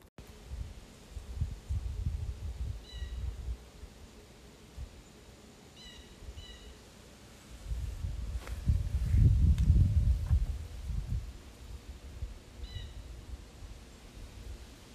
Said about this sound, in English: And the last sound is outside, and you can kind of hear some birds and the trees like moving and the leaves moving on the trees. And this just makes me think of the weather changing because it's getting so much colder now since it's going to be fall.